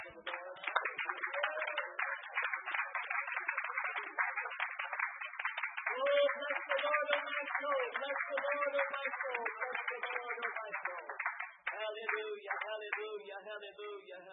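An audience claps steadily for about fourteen seconds, a dense patter of many hands, with raised voices calling out over the applause partway through.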